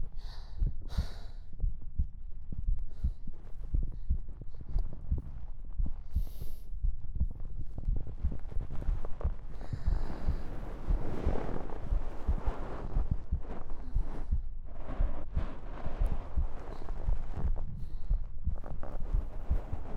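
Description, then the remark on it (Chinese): A rapid heartbeat thumps heavy, its deep pulses repeating quickly and steadily for the whole stretch, with a faint airy rustle and hum behind it and no voices. “心跳声很快，很大声，就这，不要再说了嘛。”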